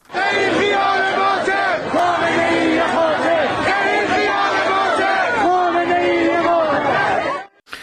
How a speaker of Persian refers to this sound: در نیشابور ما شاهد تظاهرات بزرگی بودیم که در این شهر مردم علیه رهبر جمهوری اسلامی علی خامنه‌ای شعار زدند. صدای داریم از نیشابور، بشنویم با هم.